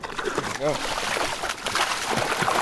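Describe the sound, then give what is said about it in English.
A salmon about 2 feet long, roughly 15 pounds, secured on a stringer, thrashes its tail in shallow river water, making a steady, churning splash that runs the whole time, close by, with a brief exclaiming voice early on. “When we get close, its tail thrashes in the water.”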